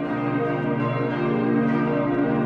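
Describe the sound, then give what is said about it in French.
Church bells ring out loudly and continuously, their overlapping tones blending into a dense, resonant peal with no pauses and no voices. “Il faut que les cloches sonnent.”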